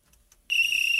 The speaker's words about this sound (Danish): Så lykkes det at trykke på fløjten.